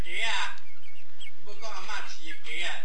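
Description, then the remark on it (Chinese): Chickens kept by a grandmother cluck in three short, busy bursts, moderately loud, with brief pauses between them and some voices faintly mixed in. “你 阿嬷饲的哦， 嘿， 哦阿嬷饲这么侪只鸡啊，”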